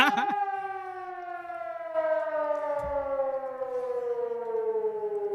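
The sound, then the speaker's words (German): A civil defense siren, sounding alarm level B and standing not far from the speaker's house, wails in a long, steady tone that slowly slides downward in pitch. It is loud and rich with harmonics, sounding alone with no voices. “Ja, die, das war die Alarmstufe B, die ist gerade gestartet.”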